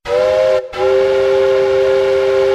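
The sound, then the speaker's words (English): A loud steam whistle from the Winston Churchill Loco, a miniature train carrying riders to the Pleasure Gardens, blows in two blasts: a short toot, a brief gap, then a long sustained shrill tone with strong harmonics. “Please sit back and enjoy the ride on the miniature train whilst we tell you a few interesting facts on your journey to the Pleasure Gardens.”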